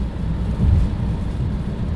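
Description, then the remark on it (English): A steady, muffled low rumble of wind and light rain heard from inside a moving car driving past Wickhope Anchorage in Kielder on a very wet and windy day, with a dull swell in the middle and no voices. “Very, very wet and windy weather today. It's not raining hard though, is it?”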